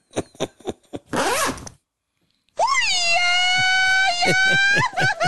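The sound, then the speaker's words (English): A quick series of raspy zipper pulls ends, then after a brief silence a loud, drawn-out pained wail rises, holds at a high pitch, and breaks into shaky cries at the end. “This is the professional equivalent of getting your dick stuck in your zipper.”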